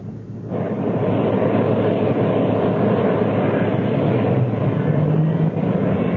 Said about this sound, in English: Engine start completed.